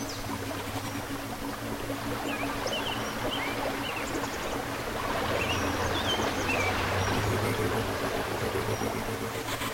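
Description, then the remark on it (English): A bird calls with a scattering of short, high chirps over a constant rushing, water-like background and a low steady hum. “Are you aware of the bird?”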